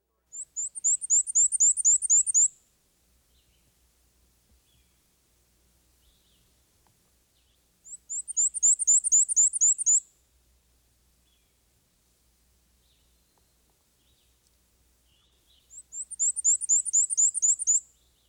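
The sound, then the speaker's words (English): A black-and-white warbler sings its high, thin, repetitive two-note song three times, each burst of rapid squeaky 'wheeza' notes lasting about two seconds, clear against quiet surroundings. “This warbler's song is a repetitious, two-noted, wheeza, wheeza, wheeza, wheeza. Here's the black and white warbler again.”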